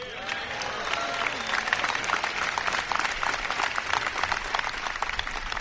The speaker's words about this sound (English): I'm even up here clapping for Jim Hunt.